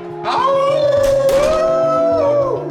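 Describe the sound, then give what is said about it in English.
A long, loud wolf howl rises and then holds a steady pitch for about two seconds, over a low rhythmic pulsing background. “Destroy him, wolves!”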